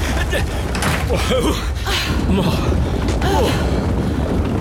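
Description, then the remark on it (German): A door is pulled open and quickly banged shut as people hurry inside from snowy winter weather with a big snow cloud approaching, amid a steady roar of wind-like noise, with brief voices heard through the commotion. “Los, Ben. Nichts wie rein und Tür zu.”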